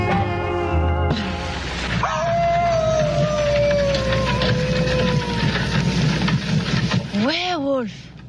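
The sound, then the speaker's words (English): A wolf's long, wavering howl drifts slowly downward for several seconds, followed by a brief rising-and-falling cry, set against a steady low rumble. “Werewolf? There. What? There, wolf.”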